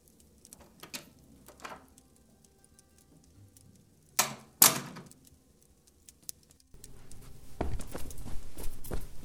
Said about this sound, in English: At that moment, the door opened. And Peterson, the hotel doorman, ran into the room.